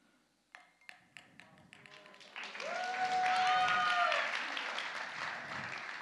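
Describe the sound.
A few scattered claps start things off, then an audience breaks into loud, sustained applause with some cheering voices mixed in, holding steady before easing slightly at the end.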